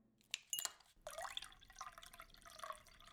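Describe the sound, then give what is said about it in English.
A couple of light glassy clinks, then a steady stream of water pours into a glass, its tone rising as the glass fills. Fairly quiet, with no voices. “Be a good servant. And get me some water.”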